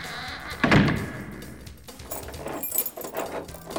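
A door thuds shut, followed by a run of metallic clicks and clunks as several locks and bolts are fastened one after another, with no talking.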